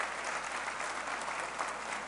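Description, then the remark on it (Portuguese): An audience of the Assembleia de Deus de Madureira applauds Jesus together, a steady, dense wash of many hands clapping at an even level throughout, with no voices rising above it. “Se você puder, aplauda Jesus com muita alegria.”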